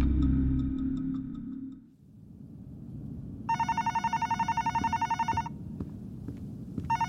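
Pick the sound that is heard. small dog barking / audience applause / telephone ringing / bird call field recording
telephone ringing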